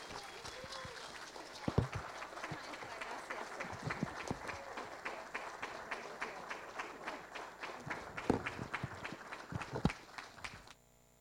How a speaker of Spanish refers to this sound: Que retumben esos aplausos para Teresa Parodi, que hoy recibe la Orden Nacional al Mérito Comuneros, la más alta distinción de la Honorable Cámara de Diputados.